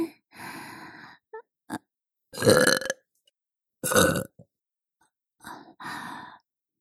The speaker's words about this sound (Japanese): ママのゲップ、甘くて臭くていい匂い？